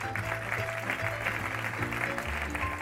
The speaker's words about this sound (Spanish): Un aplauso para ellos.